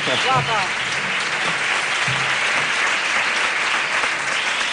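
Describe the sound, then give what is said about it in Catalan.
A crowd claps steadily for several seconds for the two presenters of the event, a dense, loud wash of applause with a few brief voices and cheers rising over it near the start. “Així que un aplaudiment per aquests dos cracs.”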